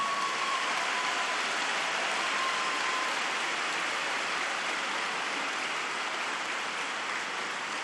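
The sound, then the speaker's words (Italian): A large audience claps steadily for several seconds in applause for mothers and grandmothers, a dense, even wash of many hands with no break in intensity and no voices rising above it. “Un applauso alle mamme e alle nonne.”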